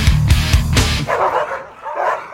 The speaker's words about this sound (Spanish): Los perritos que son todos esos ladridos